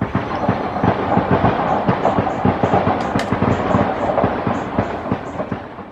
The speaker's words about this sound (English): The four-year-old who you all saw on the video, he used to get startled and scared when he heard those gunshots, and that video wasn't long ago. Now, they don't faze him, which is very concerning.